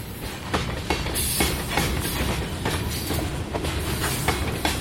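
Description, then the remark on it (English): A long freight train of coal cars, each piled high with dull black coal, rolls slowly and steadily past, its wheels clacking over rail joints in a regular rhythm beneath a constant low rumble and hiss, with no voices. “Long, slow trains of 100, 120 cars or more, each piled high with dull black coal.”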